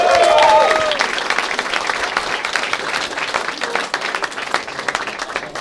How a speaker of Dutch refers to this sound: Gefeliciteerd en ook een applaus voor mij.